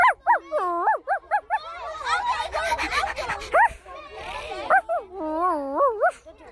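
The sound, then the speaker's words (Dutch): A dog yips and whines in quick, high-pitched bursts, with a rougher, noisier stretch of barking in the middle before the sharp yelps return. “Een hond.”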